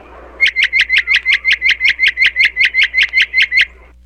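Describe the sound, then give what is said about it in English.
A bird, asked to count from 1 to 20, squawks in a fast, steady series of about eighteen sharp, bright calls evenly spaced over three seconds, loud, with no talking. “I only counted 18, and besides, they weren't counts at all. They sounded more like squawks.”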